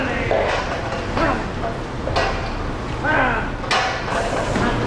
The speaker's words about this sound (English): The group says this summer the worker shot video of farm employees beating, punching, and kicking cows and cutting cow tails. Here are a few seconds of cows being kicked in the legs and face.